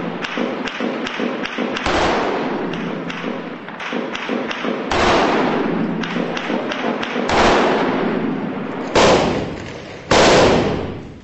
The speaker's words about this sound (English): We just heard half a dozen rounds over the top of us, IS shooting back at us. So there's renewed fire.